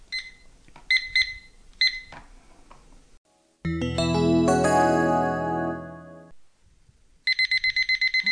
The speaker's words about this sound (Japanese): はい、タイマーが鳴りました。